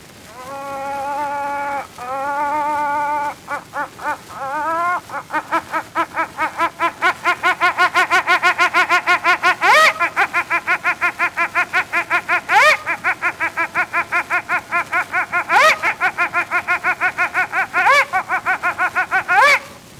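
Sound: imitated hen cackling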